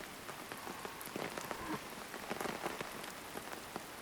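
nature, rain falling

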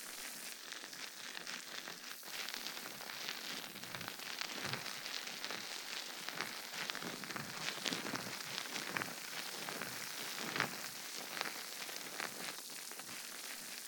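sound effect, fizzing

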